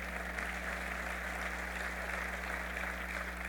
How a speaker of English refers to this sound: This will help us attract more investment and create more jobs. Kim, and yes, you can clap on that.